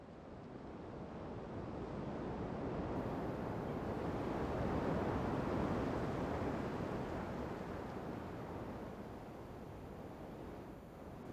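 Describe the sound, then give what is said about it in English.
Steady ocean surf rolls and washes onto the shore, a broad hiss of water that swells gradually to a peak midway and then eases back, with no voices. “As you breathe, so do the waves.”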